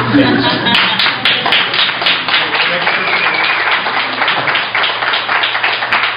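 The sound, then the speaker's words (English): An audience at a public comment session bursts into steady applause after a speaker urges a vote to deny, a dense, even wash of many hands clapping that holds for about six seconds, with a low hum and some crowd murmur underneath. “Okay, and I need to ask that applause be kept, that we not applaud or speak from the audience.”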